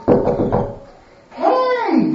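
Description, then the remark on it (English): Three quick, solid knocks on a door, followed by a voice calling out loudly. “Hey, hear me, open the door.”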